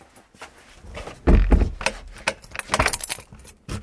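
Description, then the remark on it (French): A key turns in the lock of a shelter door with metallic jangling and clicks, followed by a solid thunk of the bolt and some handling noise, fairly loud, with no talking. “On sort de l'abri. Fermer la clé.”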